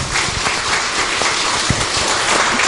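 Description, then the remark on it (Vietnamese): A large audience at a Buddhist Dharma assembly at Phổ Quang pagoda applauds loudly and steadily in thanks for the venerable monk's teaching, a dense wash of many hands clapping at once that holds at full strength for the whole stretch, with no voices over it. “Tràng pháo tay thật nồng nhiệt và khá lớn vừa rồi cũng thay cho lời cảm ơn toàn thể pháp hội hôm nay đến với lời khai thị của thượng tọa trong buổi chiều hôm nay.”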